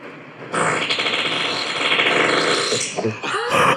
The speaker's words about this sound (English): Now this is my fart.